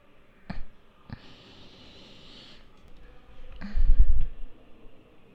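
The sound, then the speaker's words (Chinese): A pen scratches across paper as someone starts writing answers to exercise questions, a soft hiss of strokes broken by a few sharp taps and a low thump near the end. No one speaks. “已经开始动笔了，是个不错的现象呢。”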